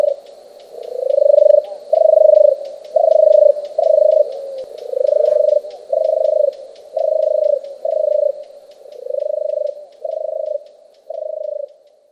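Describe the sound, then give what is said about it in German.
A European turtle dove gives its soft, purring call: a steady series of about a dozen low, rolling 'turrr' notes, each roughly a second long, evenly spaced. “Sie sind übrigens nach ihrem Tur-Tur-Tur-Ruf benannt.”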